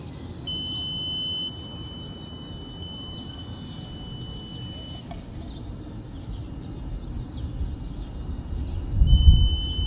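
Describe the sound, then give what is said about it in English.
A groundwater level meter, lowered on a cable from a spool down a groundwater well tube, emits a steady, high-pitched electronic beep on hitting the water table about 1.3 meters below the ground surface; it holds for several seconds, stops, then sounds again near the end, over low outdoor rumble and a soft thump. “So it'll beep once it hits the water table.”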